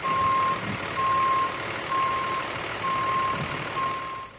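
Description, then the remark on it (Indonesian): A trailer truck backs up during reverse-parking practice on a quiet street in the Bronx, New York, its reversing alarm beeping steadily, five evenly spaced tones over a low rumbling engine, loud, with no voices. “sedang latihan parkir mundur dengan truk trailer di sebuah jalan sepi di Bronx, New York.”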